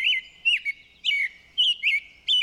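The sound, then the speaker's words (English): An American robin sings a run of clear, warbling phrases, several short bright notes separated by brief pauses, fairly loud with no other sounds. “Once more, here's the long-winded robin.”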